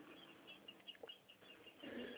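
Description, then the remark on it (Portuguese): Small birds chirp faintly in a place surrounded by farms, brief scattered calls over a steady background hiss, with no one speaking. “Não, tô escutando até os passarinhos.”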